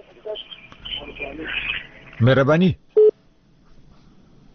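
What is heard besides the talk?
telephone busy tone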